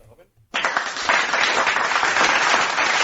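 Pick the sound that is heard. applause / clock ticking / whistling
applause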